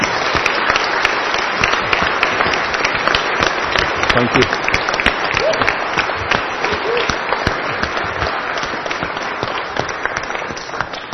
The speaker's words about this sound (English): but on this particular day, I wonder if you would show your appreciation for all of them in a worthy round of applause with thanks and gratitude.